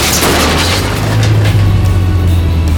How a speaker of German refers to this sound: Doch der Pfeiler krachte plötzlich gegen den großen Kirschbaum und verhakte sich am Stamm. Und dann gab es einen mächtigen Ruck, der Wagen kam ins Schleudern und schließlich hörten sie einen mächtigen Knall.